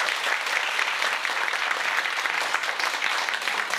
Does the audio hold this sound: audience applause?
yes